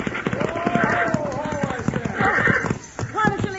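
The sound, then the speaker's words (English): Horse hooves clatter in a quick, loud rhythm that eases off toward the end as the horses are pulled to a stop, with a man's raised voice calling out over the hoofbeats. “Pull them horses down! Wait up!”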